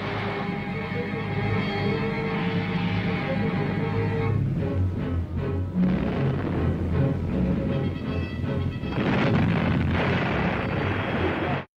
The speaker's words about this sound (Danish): Ja, skibsartilleri torter løs fra HMS Warspite i søslaget i Narvikfjorden under slaget om Narvik i april 1940. Og det vi hørte, det var et klip fra en britisk propagandafilm.